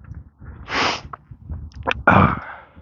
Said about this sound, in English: Snort, sniff, snort.